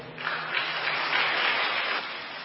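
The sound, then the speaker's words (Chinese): An audience at a church testimony meeting applauds steadily to thank a speaker for his testimony and welcome the next witness forward, a dense wash of many hands clapping that swells in the middle and holds at moderate loudness for a couple of seconds, with no voices over it. “我们也鼓掌欢迎下一位见证人来到前面位置作证。”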